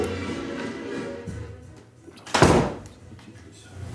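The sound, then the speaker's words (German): The door of a small separate booth swings shut with one loud thump and a brief rush of air, set against a low, steady background hum before and after. “Und jetzt machen wir die Tür wieder zu.”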